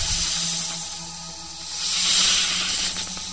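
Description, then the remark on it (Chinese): Steady hissing of many snakes, a broad airy sound that swells louder midway and then eases slightly, continuous for a few seconds with no one speaking. “哪里来的蛇？”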